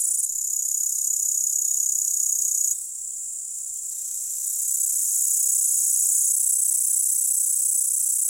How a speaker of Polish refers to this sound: Konik śpiewający koncertuje od końca lipca do października.